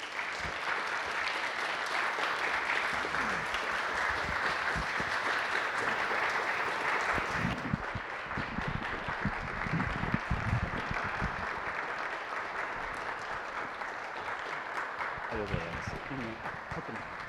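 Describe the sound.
Sustained audience applause, a dense steady wash of many hands clapping at an even loudness throughout, with a few faint voices mixed in underneath.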